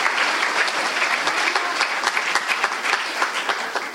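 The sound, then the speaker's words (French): An audience applauds steadily to welcome a guest called a gift from the Lord, a dense wash of many hands clapping at an even, fairly loud level throughout, with no voices standing out. “On peut applaudir un cadeau du Seigneur.”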